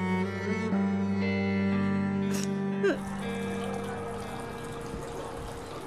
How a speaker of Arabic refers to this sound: سكر الحنفية، صار لنا نص ساعة على هالحالة تبللنا.